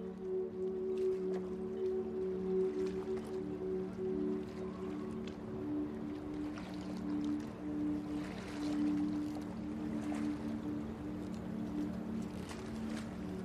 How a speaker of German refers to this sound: Deine Reise startet an einem Hafen.